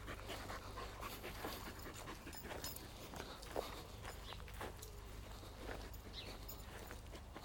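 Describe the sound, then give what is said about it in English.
A retriever pants steadily, its quick rhythmic breaths mixed with the soft shuffle of paws walking, over a low rumble of background noise and no voices. “For a dog that's meant to be a flipping... retriever.”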